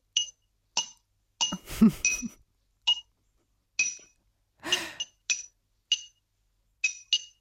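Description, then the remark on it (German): A spoon taps a glass about a dozen times at an uneven pace, each strike a bright ringing clink, with a couple of soft breathy noises in between. “Also ich würde jetzt sagen, das ist ein Glas und Löffel oder vielleicht ein Messerrücken.”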